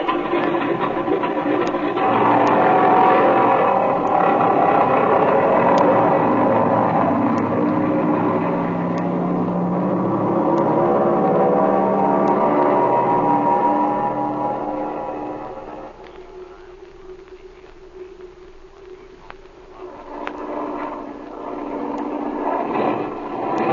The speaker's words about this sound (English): This engine's missing, Speed. The tachometer keeps jumping back and forth. Yeah, I hear it, Jim, and I can't understand it.